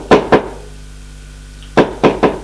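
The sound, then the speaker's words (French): Knocking on a wooden apartment door: two quick solid raps, over a second of quiet, then three more raps in a slightly uneven rhythm. Fairly loud and dull-toned, with no voices. “Alors, il frappe à la porte.”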